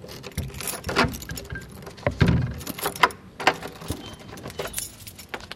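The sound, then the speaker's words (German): Keys jangle and scrape in a lock, followed by a few metallic clicks and a low thump as the city archaeologist unlocks an ordinary door, the entrance to a church tower at the side of the church, with no voices. “Es ist ganz eine normale Tür, die der Stadtarchäologe Dölfield aufbeschlüsst”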